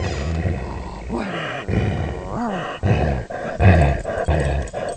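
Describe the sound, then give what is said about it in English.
A dog named Ranger lets out a series of loud, raspy barks and growl-like yelps, roughly five or six bursts spread unevenly over a few seconds, with no talking. “What beautiful dog she is. Can you hear her?”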